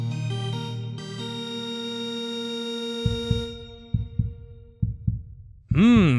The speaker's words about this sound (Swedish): Ni hör pulsen slå. Max Puls är här och ni vet ju vad som gäller då.